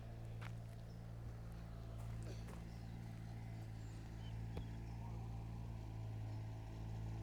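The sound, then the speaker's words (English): A small dumper truck, used for building work at a chalet, labours up a very steep hill, a steady low droning rumble throughout, with a few scattered clanks and taps over it. “Well, there's a little dumper truck from part of the building work going on at one of the chalets coming up this very steep hill.”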